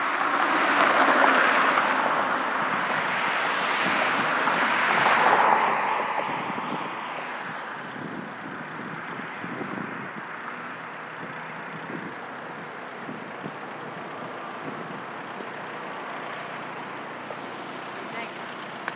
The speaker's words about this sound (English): There's a truck behind me.